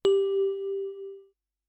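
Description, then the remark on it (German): A single gong chime struck once as the cue for learners to repeat a phrase in a language lesson, its clear, steady ringing tone fading away over just over a second, heard alone with no voices. “Bitte sprechen Sie jeweils nach dem Gong.”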